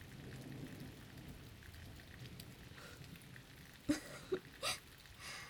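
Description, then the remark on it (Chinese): Steady rain hisses softly and evenly throughout, with a few sharper drip-like splashes popping out near the end. No voices are heard. “既然雨一直下个没完，索性跑回家好了。”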